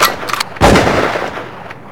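A single loud gunshot cracks out after a few faint, quick clicks, its booming blast trailing off into a long, rumbling decay. No voices are heard.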